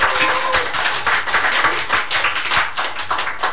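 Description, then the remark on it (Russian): A crowd applauds steadily, many hands clapping at once in a dense, continuous patter that fills the space at a moderate, even loudness for a few seconds. “С аплодисментами как вам хочется.”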